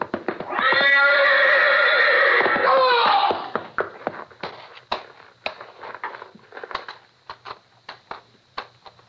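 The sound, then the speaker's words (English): A horse lets out a loud, drawn-out whinny, followed by a scatter of sharp clopping hooves and scuffling on a hard surface. “You're backing into the horse. Grab the horse, Novak. He's going to trample him.”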